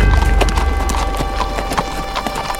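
Steady clip-clop of horse hooves on a hard surface, a quick run of sharp knocks repeating at an even walking pace, fairly loud, with a low rumble underneath and no voices.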